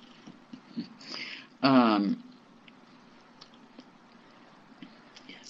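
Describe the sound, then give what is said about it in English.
A domestic cat gives one short meow with a wavering pitch, standing out against otherwise quiet surroundings with faint soft clicks and rustles. “Hey, kitty cat.”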